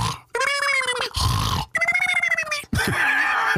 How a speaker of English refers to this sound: Hearing that snoring and stuff at a virtual meeting.